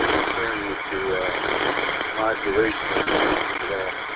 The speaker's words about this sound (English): You know, I'm trying to say that you're coming through really nice, but then just like in the background, you can hear the, you know, like it sounds like an engine.